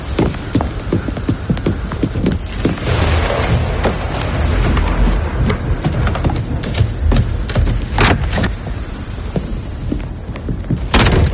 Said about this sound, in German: Es ist noch schlimmer, als ich dachte. Das ist kein Sturm, sondern ein ausgewachsener Orkan.